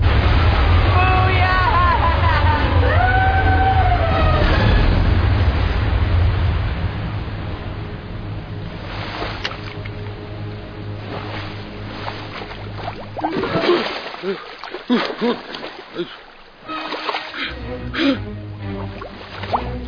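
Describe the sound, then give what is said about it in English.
A loud, steady roar of rushing water as people go over a huge waterfall, with wavering cries over it, then bursts of splashing and churning that thin out into scattered sloshes and gasps. “We're about to go over a huge waterfall.”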